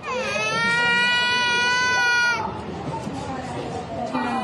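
A starving infant in Gaza, lying on a hospital bed, whimpers and cries: one long, strained, high-pitched wail held for about two seconds, then fading into softer, broken whimpers that rise again briefly at the end.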